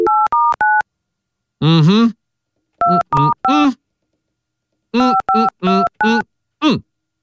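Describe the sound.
Touch-tone keypad beeps as a phone number is dialed: short, crisp dual-tone presses in quick clusters of three or four, broken up by brief bursts of a voice talking between them.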